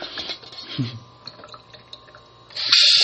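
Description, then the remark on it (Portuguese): Running tap water hisses steadily into a sink during dishwashing, with small clinks and splashes against dishes, then a dish slips against the edge and the water suddenly surges into a loud, gushing, waterfall-like spray for the last half second. “Ai, caraca, cara, eu não gosto quando isso acontece, quando eu tô fazendo, lavando um negócio e aí a louça resvala na quina, sabe? E a água vem que nem uma cachoeira, assim.”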